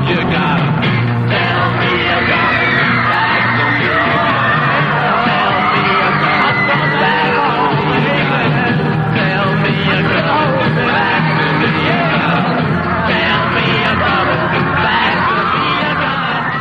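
A crowd of mostly female fans screams nonstop for the whole stretch, a loud, dense wall of high-pitched shrieks and whoops with a steady low hum underneath.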